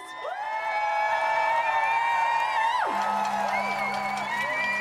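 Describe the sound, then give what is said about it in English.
A crowd cheers loudly and steadily for several seconds for April Day of the Dajua Foundation, sustained whoops and high shouting voices layered together, with one voice sliding down in pitch partway through. “April's not here, and neither is her mum, but I want to just give the biggest, loudest cheer you can good for our sister April.”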